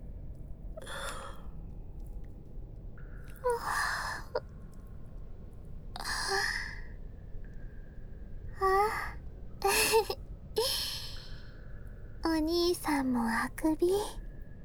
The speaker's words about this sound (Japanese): あくびば映してしもうたね。